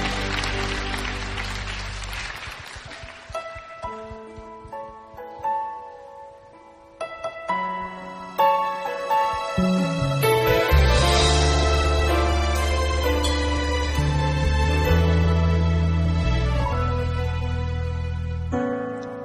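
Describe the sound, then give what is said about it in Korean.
A church audience's applause of glory to the Lord fills the opening couple of seconds as a dense clatter of clapping, then fades into sustained keyboard chords and melodic music that carry on to the end. “부르신 교회로 부르신 주님 앞에 영광의 박수 올려드립니다.”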